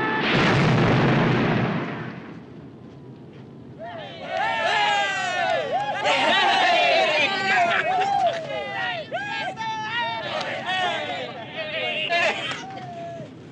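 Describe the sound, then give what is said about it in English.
A plane, fired on by ground troops and trailing thick smoke, descends rapidly and crashes with a loud, rumbling explosion that booms for a couple of seconds and fades, followed by a crowd of many voices cheering and shouting excitedly. “It descends rapidly and crashes.”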